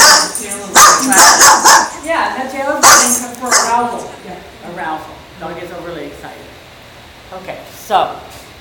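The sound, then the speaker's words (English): A dog barks and snaps aggressively in an angry, not playful, bite, with a rapid flurry of loud barks at the start that fade into quieter, intermittent growling yelps and whines. “It's an angry bite, it's not a play bite.”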